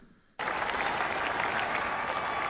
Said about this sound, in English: They did a good job clapping. They did.